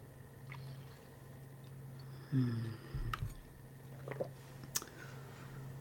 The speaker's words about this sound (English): Grab a swig of water.